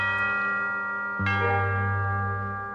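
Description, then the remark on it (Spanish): A deep church bell tolls, its resonant ring hanging in the air before a second heavy strike lands and slowly decays, loud with no voices. “12 campanadas se oyen en la iglesia.”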